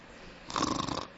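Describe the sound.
A man imitates a snore with his voice: one short, raspy snort of about half a second, fairly loud, with no other talking.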